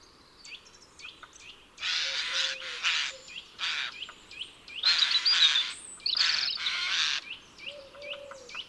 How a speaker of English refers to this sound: He's just kept in one of this oak tree's hollows a few acorns which had collected on the ground. His pantry is already quite full for winter, and it looks like the strident croaking that he emits means he is satisfied with a job well done.